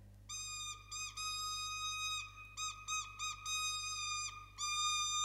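A boy on his way to school blows a toy rooster whistle bought at a fair, in a string of shrill, steady-pitched toots, some long and some short and choppy, with a slight warble and brief breaths between them. No one speaks.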